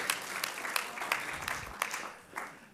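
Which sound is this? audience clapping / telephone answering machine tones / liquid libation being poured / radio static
audience clapping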